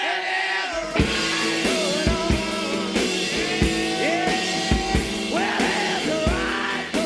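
A loud, driving rock recording plays with steady beats and twangy guitar, while a raw voice repeatedly shouts and whoops over it in rising, yelled bursts.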